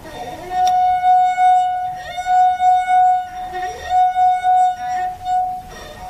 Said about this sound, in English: And then what we asked you to do was to drink half of the water from the glass and play the note again. Now, we're going to find out exactly what happens.